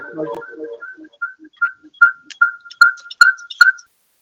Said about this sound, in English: I think we have two phones that may be operating, creating a little background noise